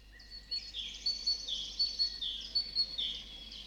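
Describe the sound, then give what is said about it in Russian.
A long-tailed tit's song: a steady run of thin, high, twittering notes and short trills repeating in quick bursts, clear over a faint low hum, with no voices. “Сейчас звучит ее песенка.”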